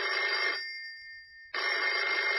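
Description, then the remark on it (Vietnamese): A field telephone in a communications tent is cranked repeatedly to place a call, its bell ringing loudly in two bursts of rapid clattering, separated by a short pause with a faint lingering tone, with no voices. “Nghĩ thế, gã liền chạy tới lều truyền tin, chui vào giớ lấy ống điện thoại, quay liên hồi.”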